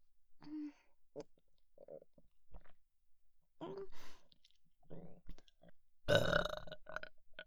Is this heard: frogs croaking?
no